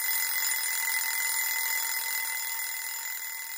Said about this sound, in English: The alarm clock was a merciless reminder to the sleeping children wrapped in their warm duvets that it was time to get up.